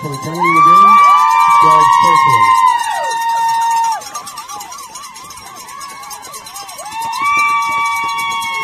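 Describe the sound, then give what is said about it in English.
Fieldcrest football fans cheer and whoop over their team's win on a rainy, cool day, with loud rising shouts and high, sustained whistles over a continuous crowd roar; a warbling, siren-like tone wavers through the middle before the cheering swells again. “And they only have to snap it one more time, as you can hear the Fieldcrest fans, like you said, Tyler, whooping it up.”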